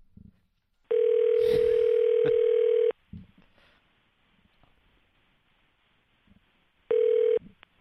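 An outgoing phone call rings through a handset: a steady two-second electronic ring tone, a few seconds of quiet with faint background rustle, then the next ring starting and cutting off.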